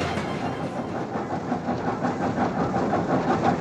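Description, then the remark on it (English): A train in Alaska, from which newspapers are handed out to area residents, rolls steadily along the rails, a continuous loud rumble with a faint rhythmic clatter of wheels running throughout, with no voices. “newspapers for area residents from the moving train.”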